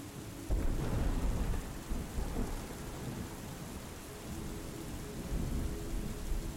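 Steady rain patters down while deep thunder rumbles low and continuous, swelling at moments, with no voices present.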